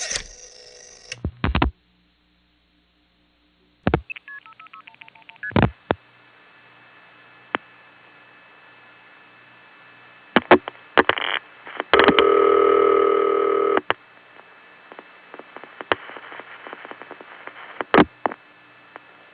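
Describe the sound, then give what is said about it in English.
Telephone call progress on an old Crossbar No. 5 exchange, dialed from a home line to a vacant number in Washington, D.C.: sharp relay clicks, a short run of stepped beeping tones, then a loud buzzing burst midway, with steady faint line hum and scattered clicks throughout. No voices. “Here's an example, dialed from my parents' line, which I recently found out was crossbar 5, and you'll notice the call goes through with the audible tones.”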